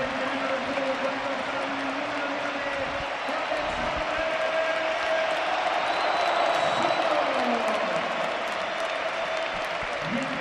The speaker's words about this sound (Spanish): Bueno, va a quitar a Sorloth en lugar de Correa el Cholo Simeone y vamos a ver la ovación que se va a llevar el delantero noruego, que empieza a aplaudir a la gente en medio de una ovación que va a ser importante.